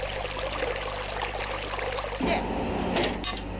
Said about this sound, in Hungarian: A patakba még most is szivárog az iszap.